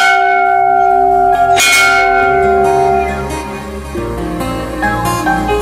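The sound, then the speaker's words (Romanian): A large ceremonial bell rings out loudly and repeatedly, its strikes overlapping into a dense, resonant wash of ringing overtones with no voices present. “Atenție la clopot!”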